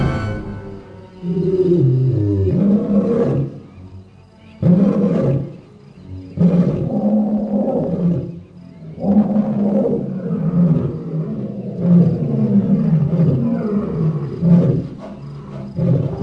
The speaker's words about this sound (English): Find a video taken at night of a pride of lions waiting by a water hole, waiting for elephants who come to get a drink of water.